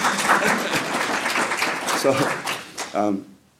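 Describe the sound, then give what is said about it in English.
A crowd applauds steadily, a dense wash of many hands clapping at once, with a few voices calling out near the end before the clapping fades out. “And applause is fine.”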